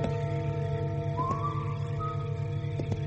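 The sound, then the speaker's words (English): A couple of short, faint whistled notes, one gliding slightly upward, drift over a steady low background hum at night, with no one speaking. “Whistling.”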